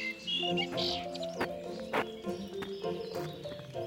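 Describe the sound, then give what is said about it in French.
A blackbird's whistled phrases ring out over steady background noise, mixed with sharp knocking clicks and low droning tones, with no talking. “Le merle bien mixé, ça pourrait être un peu rossignolesque.”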